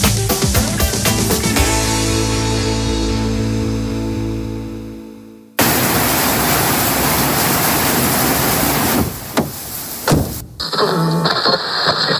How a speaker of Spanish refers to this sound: Tras las tormentas de los últimos días en el Mediterráneo, ha llegado la borrasca Hanna. Hace años que yo no veo el río de esta manera y la verdad es que está tremendo.